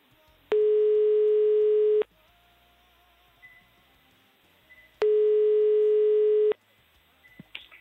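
Two long, steady telephone ringback tones, each about a second and a half, separated by a pause of several seconds, as a call is dialled live from Radio Le, with only faint background noise between them and no talking.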